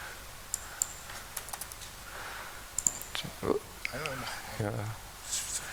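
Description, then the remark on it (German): Scattered computer mouse and keyboard clicks, sharp, arriving irregularly in small bursts, while a soft voice murmurs briefly in the background. “Ach, genau, klickt sich zurecht.”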